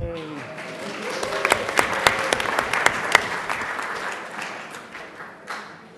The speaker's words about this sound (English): That was the easiest applause I ever got.